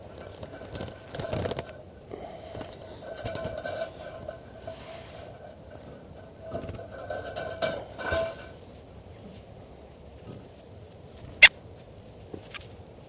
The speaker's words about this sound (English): So recording, this is bird 410 being handled.